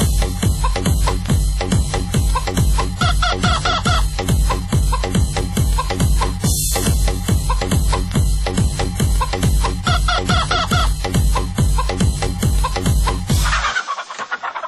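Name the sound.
rooster clucking and crowing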